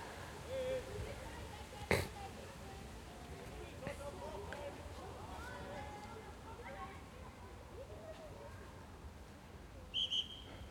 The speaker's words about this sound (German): So, jetzt gab es ein bisschen Konfusion, weil die Kinder nicht gehört haben, dass der Schiedsrichter da gepfiffen hat.